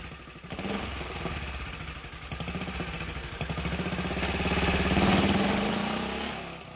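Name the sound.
motorcycle engine idling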